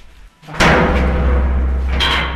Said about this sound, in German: Unterdessen sind wir am Fuss von der Grande Xence und gehen jetzt durch eine Tür in die Staumauer rein. Man muss sich vorstellen, die ganze Mauer ist 285 Meter hoch und das unterste an der Sohle 200 Meter dick.